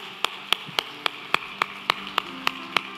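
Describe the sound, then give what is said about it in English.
An audience claps together in unison, about eleven sharp, crisp claps at a steady, quick tempo over a faint hiss, with no talking. “Let's applaud this day, okay?”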